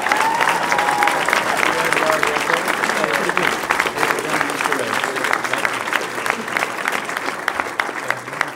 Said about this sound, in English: Ladies and gentlemen, let's have a round of applause for our 2013 Spirit of Service honorees.